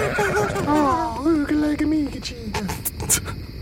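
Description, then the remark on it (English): A person imitates a horse's whinny for a tiny horse with a top hat on, named Gubnit, with a high, wavering, quivering voice that slides downward over a few seconds, fairly loud, trailing off into breathy noise. “Look, children, play with your mother's tiny horse with a top hat on.”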